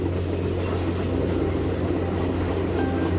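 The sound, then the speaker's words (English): A steady, loud low-frequency rumble of a train rolling through the 6,379-meter-long Samalada Tunnel, drilled through a mountain, with a constant droning hum and faint rattling, continuous with no voices. “We pass through the 6,379-meter-long Samalada Tunnel.”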